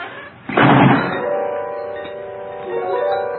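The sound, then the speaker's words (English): A heavy solid steel door slams shut with a single loud, booming thud, followed by a lingering metallic ring of steady tones that slowly fade. “Who closed the door?”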